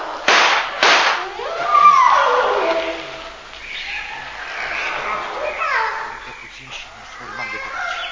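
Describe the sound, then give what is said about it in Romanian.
Two sharp gunshots ring out in quick succession, loud cracks about half a second apart, followed by high-pitched excited voices talking over the rest. The shots are fired by the character Dick. “Zic, zic, repede, trage și mai stai.”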